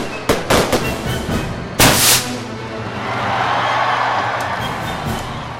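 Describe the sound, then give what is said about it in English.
Fireworks burst in a rapid cluster of sharp cracks and booms, with one big loud blast near two seconds, then a lingering crackling rumble and pops fading out. “I can remember being out at Jones Beach on Long Island watching 4th of July fireworks shows being put on over the water.”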